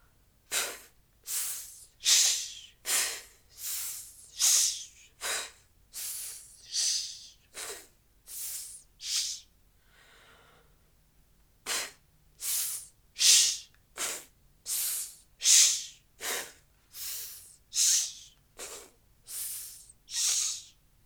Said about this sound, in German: aber es soll auf keinen Fall zwischendurch durch Schnappatem eingeatmet werden. Erst wenn wir keine Luft mehr herauszischen können, lassen wir Bauch- und Flankenmuskulatur los und atmen damit automatisch ein.